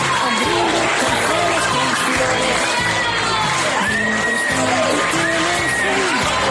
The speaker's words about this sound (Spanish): Ahí se notan las ovaciones de los alumnos para una persona, un profesor al que han querido mucho. Un ejemplo del cariño que le tienen es este que estamos escuchando.